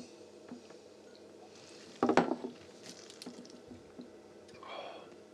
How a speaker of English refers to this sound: Well, let's take a dram, see what we think.